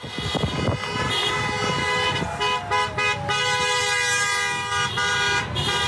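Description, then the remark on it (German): Many car horns blare at once at an angry protest in Michigan, a loud, continuous, overlapping chorus of long honks, with some shorter toots and a rumble of traffic underneath. “Das wütende Gehupe ist in Michigan vonstatten gegangen.”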